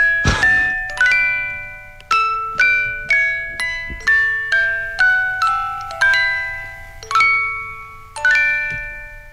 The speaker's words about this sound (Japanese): 今、でも俺思ったんですけど、このなんか、オルゴールのこれ回す音よくないですか？